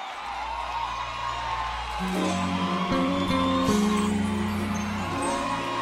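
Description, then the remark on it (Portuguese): An audience at a live music show claps and cheers for the double bass player as he is introduced. The applause is a steady, dense wash of noise with a few whoops, while deep bass notes start playing underneath about two seconds in. “Senhoras e senhores, no contrabaixo, uma salva de palmas,”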